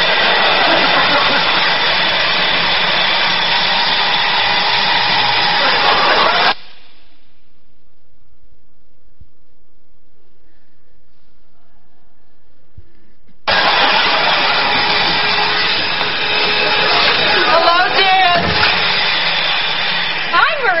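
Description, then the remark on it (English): A new bagless vacuum cleaner roars loudly and steadily, cuts off abruptly into several seconds of near silence, then starts up again with the same harsh whirring drone. “And I noticed you bought a new vacuum. It's amazing what this thing picks up,”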